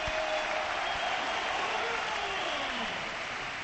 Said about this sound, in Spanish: Tremenda ovación, salvo algún pito que ha sonado por ahí de fondo, pero la gran mayoría de estos 45.000 espectadores ovacionan la vuelta de Rodrigo Moreno.